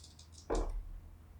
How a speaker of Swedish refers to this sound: Jag ska slå ett tärningsslag nu. Vänta.